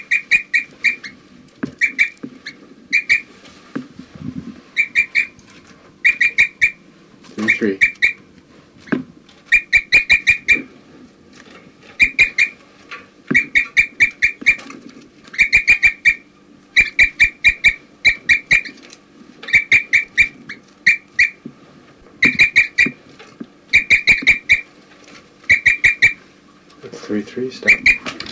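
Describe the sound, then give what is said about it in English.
Rapid bursts of high, bright bird chirps, with the bird labelled 4-3 among a group of recorded birds chirping in, repeat in quick clusters throughout, with short gaps between, over a low steady background hum and occasional soft clicks. “4-3 occasionally chirping in.”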